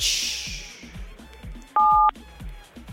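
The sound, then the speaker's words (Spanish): A single loud telephone keypad tone beeps for about a third of a second, a steady dual-pitched touch-tone, as a digit is pressed on a phone to activate a musical roulette, over a quiet backdrop of rhythmic low thumping beats. “Activa la ruleta, pincha un dígito ahí en tu teléfono, pincha un dígito.”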